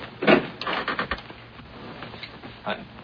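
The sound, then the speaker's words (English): Someone tries to open a door whose handle has come off, rattling and clattering the handle in a few short, uneven bursts, the loudest at the start, with quieter knocks trailing off. “All right, you just try to open the door.”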